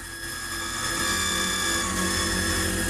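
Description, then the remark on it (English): A drill bit grinds steadily into a metal combination lock, a loud, continuous whine with a harsh mechanical buzz and a low rumble underneath, never letting up for the full stretch. “Sarah covers her ears to block out the sound of the drill piece penetrating the combination lock”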